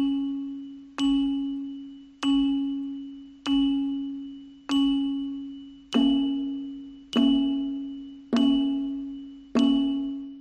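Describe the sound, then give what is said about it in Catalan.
A single bell tolls nine times at a slow, steady pace, each strike ringing out loud and clear before fading into the next, with no voices. “Sentir sonar campanes i saber per què repiquen.”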